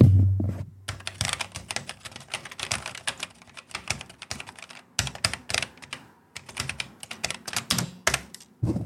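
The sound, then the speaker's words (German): Brisk typing on a vintage Schneider CPC home computer keyboard, with clacky keystrokes in irregular bursts and a brief pause about halfway through. A low hum sounds at the very start. “So muss sich eine Tastatur anhören.”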